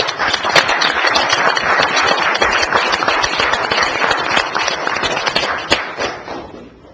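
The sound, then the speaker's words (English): At an Othello City Council meeting, a crowd claps steadily for police explorers for several seconds, dense overlapping hand claps that stay loud and even before thinning out and fading near the end. “I want to welcome these police explorers tonight. Can we give them a round of applause?”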